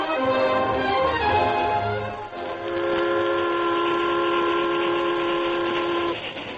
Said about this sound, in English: The train from St. Louis to the far west sped over the Texas prairie.